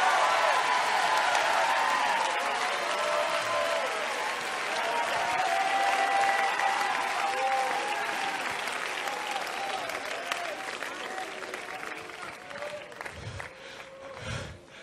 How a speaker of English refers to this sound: What happens when you shout is you begin to pull on heaven. Hey, it's not a religion thing. This is a Bible thing. It is biblical to clap. It is biblical to shout. It is biblical to dance.